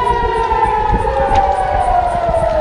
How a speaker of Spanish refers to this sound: Es la hora a la que comenzaron a sonar las alarmas antiaéreas en el centro y en el sur de Israel por la llegada de cientos de cohetes lanzados desde Gaza contra su territorio.